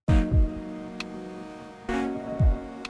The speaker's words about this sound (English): When you make sound, your alarm clock makes sound, it's creating pressure vibrations in the air where it is. Those pressure vibrations propagate outwards.